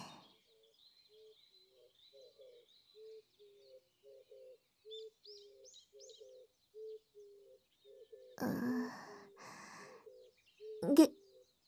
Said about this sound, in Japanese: 鳥、鳴いてますね。